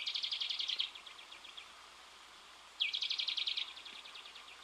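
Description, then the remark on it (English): A male bird sings two bright, high trilling phrases among toyon shrubs, each a rapid run of repeated notes that starts strong and fades, separated by a short pause with no talking. “The trill bounces through toyon shrubs, so that I must turn my head to follow it.”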